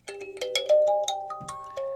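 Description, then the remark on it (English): A kalimba (thumb piano) plucked in a quick little melody of about eight bright, ringing metallic notes, each chiming and fading into the next, with no voices. “It's called a kalimba. You heard about kalimba?”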